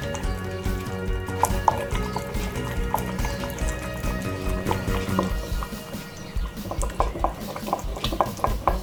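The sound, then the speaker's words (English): Steady stirring in a bowl as extra virgin olive oil is slowly poured in to make black garlic aioli, with quick rhythmic clicks and scrapes of the utensil against the sides, continuing throughout with no talking. “So you wanna do start slowly pouring in the oil while you start mixing all the ingredients together.”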